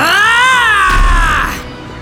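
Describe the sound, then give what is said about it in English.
A single long, drawn-out cat meow, loud, its pitch rising slightly then sliding down and trailing off, with a brief low rumble in the background midway. “It's me, your cat.”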